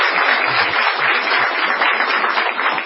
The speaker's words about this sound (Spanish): Bien, la misma ovación desaforada habrá de recibir el artista antes llamado Gillespie.